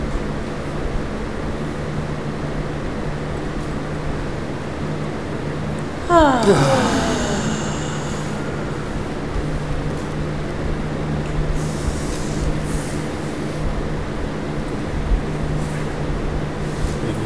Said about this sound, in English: It made you yawn. You know, releasing tension. That's what a sign of yawning is, releasing tension. You're also yawning.